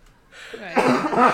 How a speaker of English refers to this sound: Right. Please cut my coughs out.